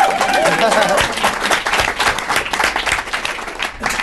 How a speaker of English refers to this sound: Okay. Great. We can clap for that.